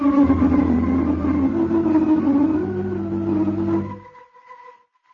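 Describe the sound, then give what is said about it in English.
A car engine drones steadily for about four seconds as a car is driven home with a passenger in the back seat, a low, even hum with a slight rise in pitch, then fades quickly away into silence. “And now you were driving Nina home. And although she rode in the back seat”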